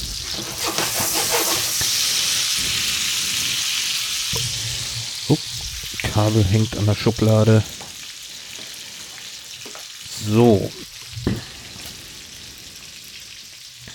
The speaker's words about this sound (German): 215 Gramm Zucchini habe ich da jetzt. So, und ab in die Pfanne damit. Zack.